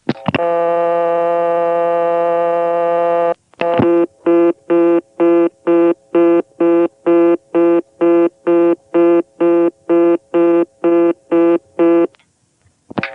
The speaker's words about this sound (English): Cutting into a reorder from payphones when you try to dial 1 is something that is pretty much the exclusive province of the Bell Postpay system. Here's one in Sperryville, Virginia.